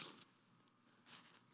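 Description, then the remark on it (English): Two brief, crisp crunching bursts of someone biting into crunchy food, separated by a short quiet pause, with no talking. “I better not chew that in the microphone.”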